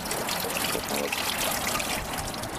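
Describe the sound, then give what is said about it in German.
Steady rainwater splashing and trickling after rain, a continuous bright babbling wash of water with no pauses, fairly loud and filling the whole moment. “Plätschert es übrigens ganz mächtig. Hat wohl irgendwie geregnet.”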